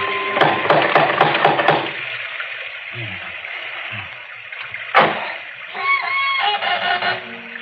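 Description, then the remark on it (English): A door knocker raps in a rapid burst of sharp, ringing knocks. After a lull comes one heavier bang, then a voice begins speaking. “There isn't a bell on this door. There might at least be a knocker.”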